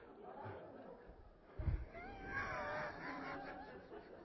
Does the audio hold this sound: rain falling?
no